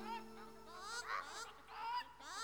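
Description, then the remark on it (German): Ducks quack faintly, a few nasal, honking calls running together in quick bursts at a low level with no talking over them. “Auch das fröhliche Schnattern der Enten war kaum noch zu hören.”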